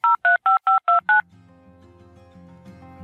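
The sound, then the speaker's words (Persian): Six quick, evenly spaced keypad beeps as a number is dialed on a phone to call the Irsafam institute, an IELTS test centre in Iran, loud and clear, followed by a faint, muffled line hum and background murmur. “در تماس تلفنی که با ایشون داشتیم.”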